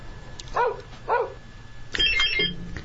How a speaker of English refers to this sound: A dog. A dog is right.